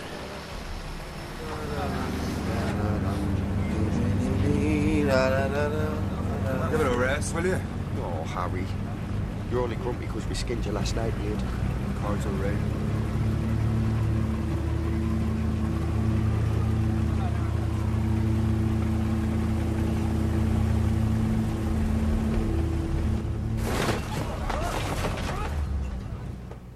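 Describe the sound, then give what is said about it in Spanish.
A loud aircraft engine roars and revs unevenly as the pilot attempts takeoff on an icy runway at Munich-Riem airport, Germany, during a heavy snowstorm, and something fails; its pitch wavers and sputters before settling into a strained, steady drone, ending with a few sharp bursts as the engine falters. “El piloto intenta despegar, pero algo falla.”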